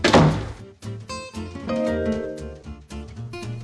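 A closet door in a bathroom is flung open with one heavy thunk right at the start, then sustained ringing tones take over for the rest of the moment.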